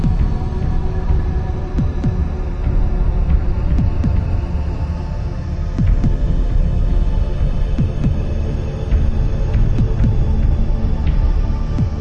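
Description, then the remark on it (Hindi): A deep, throbbing heartbeat effect pulses quickly and steadily over a low, droning hum, loud, with no voices. “जैसे जैसे उस प्रकाश के गोले के करीब मैं जा रहा हूं, मेरे दिल की धड़कनें तेज होने लगी है।”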